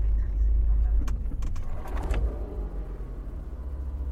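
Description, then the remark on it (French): A gendarmerie patrol car with a light bar on its roof and two gendarmes aboard rolls slowly past buildings at around 20 km/h, with a low, steady engine rumble, accompanied by a few soft clicks and faint mechanical sounds, in a quiet nighttime setting. “Pour cela, la voiture roule à très basse vitesse, autour de 20 km/h, et les deux fonctionnaires à bord scrutent attentivement les bâtiments, vérifie qu'il n'y ait pas d'infraction et surveille les éventuelles lumières émises par des lampes torches”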